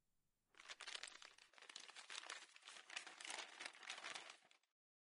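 A paper bag holding a gift handkerchief crinkles and rustles steadily for about four seconds as it is opened, fairly loud, with dense crackling texture and no voices.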